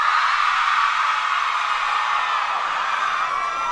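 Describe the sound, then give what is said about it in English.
A large crowd of girls lets out a continuous, high-pitched frenzied scream, loud and sustained for several seconds without a break, like fans shrieking at a pop idol. “And I would like to hear all the girls give a … scream, please.”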